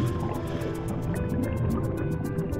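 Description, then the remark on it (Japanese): Muffled underwater ambience of a scuba dive into the sea, with a steady low rumble and quick, rhythmic bubbling bursts, like a diver's air escaping, continuous throughout with no voices. “ダイビングをして海の中へ潜る。”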